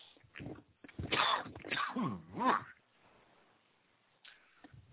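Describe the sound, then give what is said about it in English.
A loud fit of coughing: a few rough, throaty bursts packed into about two seconds, trailing off into near silence with a faint sound near the end. “Pardon me, I forgot my cough button.”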